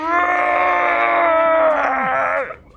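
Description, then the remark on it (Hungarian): A single loud roar from the creature Korti, a sustained, harsh, tonal bellow that holds a steady pitch for over two seconds before sliding downward and cutting off. No talking. “Kortinak az üvöltését halljátok.”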